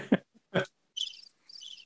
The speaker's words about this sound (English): Or listen to crickets.